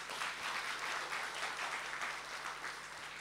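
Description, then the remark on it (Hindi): An audience claps steadily, a dense wash of many hands that holds at an even, moderate loudness for the whole stretch, with no voices on top. “कितने भाग्यशाली हम हैं, ताली तो बजाओ जरा।”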